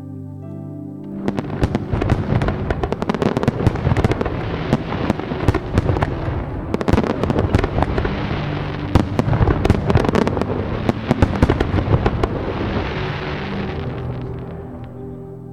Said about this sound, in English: And then brace yourself, because fireworks are loud and they often go off unexpectedly.